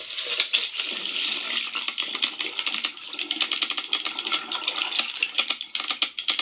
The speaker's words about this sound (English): And now, in contrast, this is going to be maybe a little bit muddied because it's underwater sounds, but this is a dolphin click and whistle.